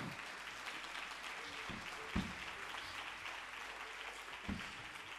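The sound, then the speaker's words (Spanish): An audience at a festival in Valencia applauds steadily, a dense crackle of many clapping hands sustained throughout, with a couple of brief louder thumps along the way and no voices standing out. “Un fuerte aplauso para ellos, que se lo merecen de verdad.”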